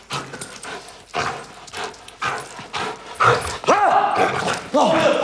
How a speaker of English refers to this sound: A training facility in Quapaw, Oklahoma. A man dressed in thickly padded clothing is chased through a building by a dog. With its teeth, the dog seizes his arm and pulls him to the floor.